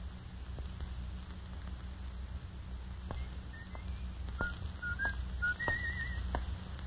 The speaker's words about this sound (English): He was coming down the street. He was whistling as he approached and then suddenly...